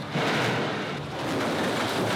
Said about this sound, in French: Il reste un bruit assourdissant, celui des tractopelles à chaque coin de rue. Une ville en train d'être mise à terre, pierre par pierre.